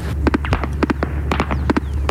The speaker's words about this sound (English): Sounds of both coalition fighter jets and incoming gunfire filled the air. We've been told to stay low because just on the other side of that ridge is an ISIS position. And as soon as we got here, we heard bullets whizzing overhead.